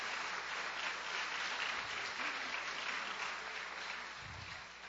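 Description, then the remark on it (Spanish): Sustained applause for the Lord from a large audience at a morning church service, a dense steady wash of clapping that holds for several seconds before easing slightly at the end. “Pues den un aplauso al Señor entonces en esta mañana.”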